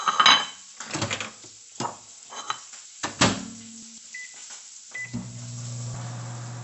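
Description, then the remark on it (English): Kitchen clatter of dishes and utensils, followed by a couple of short keypad beeps and then the steady, low hum of a microwave oven running, melting 73% dark organic cacao chocolate from Pennsylvania. “Just going to melt that in the microwave and see how that does.”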